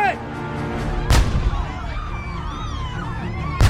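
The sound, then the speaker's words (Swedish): Two heavy cannon blasts fire a few seconds apart, each a sharp, booming discharge of grapeshot (canisters full of shot and shrapnel) fired by troops at a crowd in central Paris, over a steady background of shouting voices and din. “Det innebär ungefär att man laddar en kanon med behållare fulla av hagel och splitter som dundrar ut mot måltavlorna i en gräslig, hänsynslös skur.”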